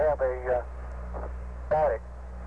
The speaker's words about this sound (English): Static. Yeah, static rather than a steady tone. I've got a little bit of a steady tone.